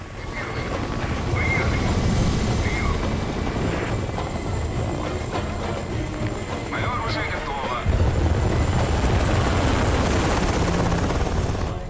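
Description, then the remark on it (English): Loud, steady roar of Russian helicopters' engines and rotors as they take off, a dense continuous drone that swells slightly near the end, with the pilots' voices faintly muffled beneath it. “As armed Afghans march, Russian helicopters take off elsewhere.”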